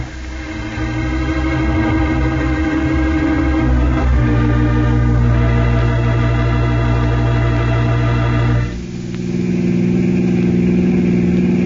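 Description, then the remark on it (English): A car engine drones steadily, its pitch shifting slightly as it runs through gear changes, with a brief dip before settling back into a steady hum. No one speaks. “Back to my car. I want to call for some men.”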